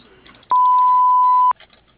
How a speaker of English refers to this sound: We cannot take your call. If you'd like to leave a message, please do so after the beep, and we will return your call as soon as we can.